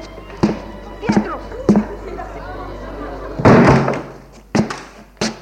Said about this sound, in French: Le groom ouvre la porte.